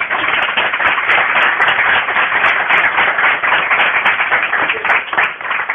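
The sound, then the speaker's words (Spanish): Steady, dense applause from a crowd applauding a book, many hands clapping together in a continuous crackling wash that stays loud and even for several seconds, with no one talking over it. “Creo que se merece un aplauso, ¿no?”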